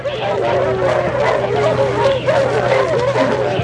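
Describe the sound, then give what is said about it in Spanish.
A pack of dogs, followed by five armed men, appears in a jungle clearing, barking and yipping together in a dense, continuous, loud chorus, with overlapping calls and a steady low hum underneath throughout. “Empuñan sus armas automáticas y quedan mirando hacia el claro de la selva, donde ven aparecer la manada de perros a huesos, seguidos de cinco hombres armados.”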